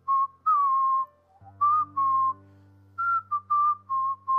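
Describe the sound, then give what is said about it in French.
A person whistles a birdlike song: two phrases of short, clear, mid-pitched notes, some with a slight warble, separated by a brief pause. A steady low hum enters partway through. “Tout à coup, il y a un oiseau qui a fait.”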